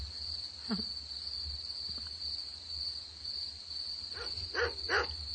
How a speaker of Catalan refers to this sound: Són grills. És clar, canten de nit.